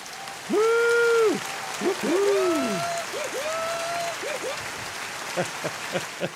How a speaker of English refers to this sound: So Friday afternoon, you have made it and you are launching into what for many of you will be a long weekend. And that means we have some applause.